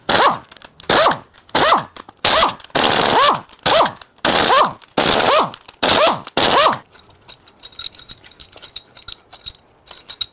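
A power tool zips out an engine's head bolts in a rapid series of about nine loud, short bursts with brief gaps, followed by quieter clinking and rattling of metal parts.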